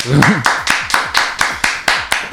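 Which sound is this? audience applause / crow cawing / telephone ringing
audience applause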